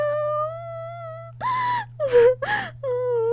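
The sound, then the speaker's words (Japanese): A woman, a maid, cries with happiness in wavering, high-pitched sobbing wails, a long quavering moan followed by several gasping, breathy sobs that rise and fall, with no words spoken. “もう泣いてます。”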